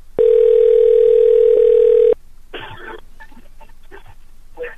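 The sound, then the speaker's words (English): After the other person hangs up, a loud, steady telephone dial tone drones for about two seconds and then cuts off abruptly, followed by a few quieter, scratchy bursts like throat clearing. “Oh, and then he hung up on me.”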